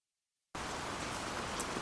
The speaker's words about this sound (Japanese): 雨の日だった。一人遊びにも飽きて窓から外を見ていた。庭の木々やいろんな花、低いレンガの塀までみんな雨に煙っている。